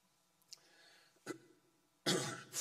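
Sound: cough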